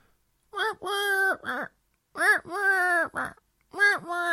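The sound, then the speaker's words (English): A person imitates the pigeon-like cooing of a bird that stands on their windowsill, repeating a hooting phrase three times: a short note, a long sustained moaning tone, then a brief tail, steady and moderately loud, with pauses between. “Except he sounds like a pigeon.”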